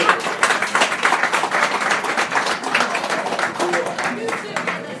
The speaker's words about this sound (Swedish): Applåd